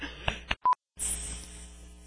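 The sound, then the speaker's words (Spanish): A pair of quick clicks followed by a short electronic keypad beep, then a brief silence before a steady hiss of line noise takes over. “ya mamaste, güey, pinches teléfonos, puta madre, güey.”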